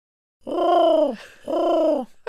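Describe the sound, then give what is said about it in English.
A person imitates a pigeon's coo with two drawn-out, throaty hoots, each falling slightly in pitch, loud, with a brief pause between them and no other talking. “That is fewer members than the American Racing Pigeon Union.”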